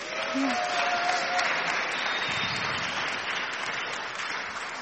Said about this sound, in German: Es wird eine sehr spannende Folge und wir haben auch ganz spannende Gäste hier. Ihr seht sie schon, auch für die bitte einmal einen Applaus.